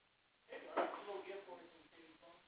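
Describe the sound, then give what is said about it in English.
A door opens with a short clunk and rattle as a vendor walks in, followed by indistinct voices murmuring, moderately loud. “Oh, we got a vendor just walked in the door.”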